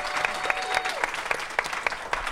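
An audience breaks into steady applause, a dense patter of many hands clapping at a moderate level, with a few sharper claps standing out at a quick, roughly regular rhythm.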